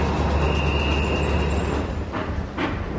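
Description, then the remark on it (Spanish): A coal-fired steam train rolls along with a steady, loud rumble of wheels on the rails, a thin high squeal running through it and a couple of sharper clacks toward the end. “Empezaban las ruedas a traquetear sobre las vías y un silbido largo acompañaba el humo que se deflecaba como una cabellera.”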